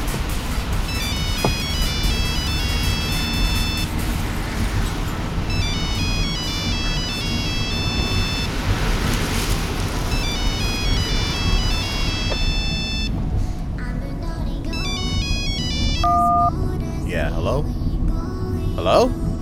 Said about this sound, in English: Why do I always get these goddamn Chinese spam calls?